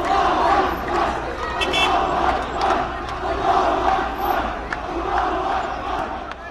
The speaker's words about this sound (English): But this afternoon, after Fatah conceded defeat in Wednesday's historic elections, the streets were a sea of Hamas green. Thousands waved Hamas flags, sang Hamas songs, and shouted, Allahu Akbar.